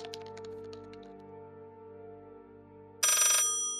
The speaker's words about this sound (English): The red phone rang with an obnoxious, outdated mechanical chime, dragging Amos back to the waking world from his dream.